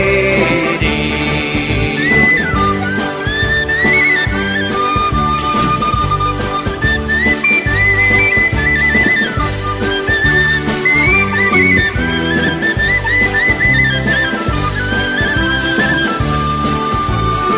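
A bright, whistled melody winds its way over a full band playing a steady, bouncy rhythm, the thin tune clearly audible above the accompaniment. Nobody speaks or sings.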